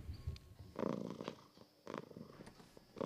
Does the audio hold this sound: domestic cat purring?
yes